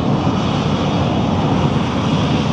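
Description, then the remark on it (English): An airplane roars overhead as it takes off from an airport: a loud, steady, rumbling engine drone that fills the whole stretch without letting up, with no voices. “I don't think we can see it, but that airplane is taking off from the airport.”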